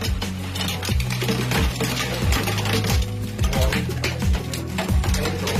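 Large hailstones pelt a roof window in Bottrop-Eigen during an unusually heavy storm with gusts, in a dense, irregular clatter of sharp loud impacts, with a low resonant droning hum running underneath and no voices.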